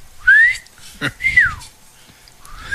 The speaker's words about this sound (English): But in softball, are you whistling to me?